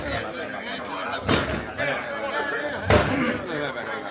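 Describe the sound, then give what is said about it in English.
Two heavy, booming blows strike a door about a second and a half apart as a sheriff tries to bust it down, over a steady bed of murmuring voices and noise. “Bust this door down, boy!”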